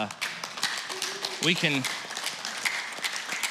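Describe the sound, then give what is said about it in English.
An audience claps for the results of the Mission Uganda program in a steady, dense patter of many hands throughout, with a brief voiced shout rising over the applause midway. “Yeah, we clap for stuff like that.”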